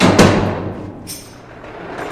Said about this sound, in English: He's dragging a huge box filled with audio recording equipment. He goes through one locked door.